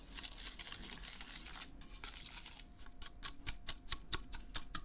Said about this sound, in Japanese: これを泡立て器で白っぽくなるまで混ぜます。皆さん音をよく聞いてください。いきますよ。